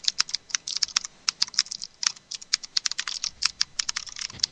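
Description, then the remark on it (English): Rapid, crisp clicking of a new-model Das Keyboard mechanical computer keyboard being typed on, a steady stream of sharp, bright keystrokes with no one speaking. “This is the DOS keyboard. Listen to this beautiful music.”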